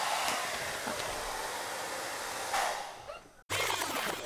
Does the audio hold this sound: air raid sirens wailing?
no